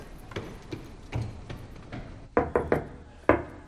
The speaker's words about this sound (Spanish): Suben escaleras.